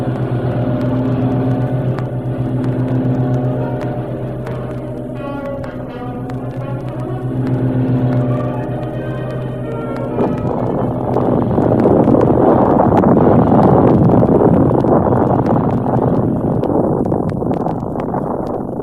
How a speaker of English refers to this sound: Quickly, they untie the boat, rev the motor, and race away.